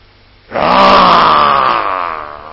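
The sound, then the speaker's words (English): A man's voice imitates the ecstatic roaring of Advaitacharya, a deep, loud, single sustained guttural cry that swells quickly after a brief silence and slowly fades over about two seconds. “When he'd go into deep ecstasies, he would roar, shake the whole universe with his roaring.”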